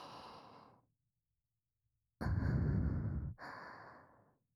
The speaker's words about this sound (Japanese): 落ち着いた。息切れがすごいけれど、これまで以上に刺激的だったよね。